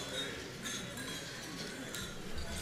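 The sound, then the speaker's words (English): Light glasses clink together several times at irregular moments, fairly faint, over a low murmur of people talking in the background, during a toast to the health of Vice President and Mrs. Biden and Secretary Clinton and to the friendship between the Chinese and American peoples. “Now, I would like to propose a toast to the health of Vice President and Mrs.”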